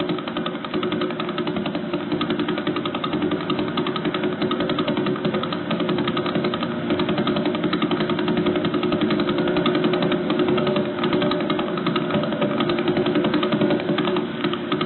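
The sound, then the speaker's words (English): A pulsar's radio signal, picked up by a radio telescope listening in space, rendered as sound: a fast, steady, buzzing pulse like a rattling machine, holding an even loudness throughout with no voices. “So they point this radio telescope, and this is what they heard.”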